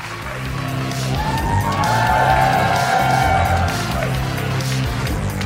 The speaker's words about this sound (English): So thank you so much for coming, everybody. Give yourselves a round of applause and let's get on out of here.